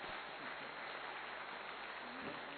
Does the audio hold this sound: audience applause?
yes